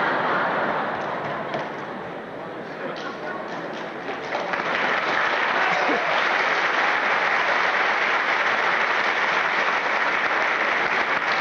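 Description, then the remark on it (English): Steady audience applause fills the whole stretch, a dense wash of clapping that dips slightly in the first few seconds and then swells louder and holds evenly to the end, with no voices. “There is not much applause.”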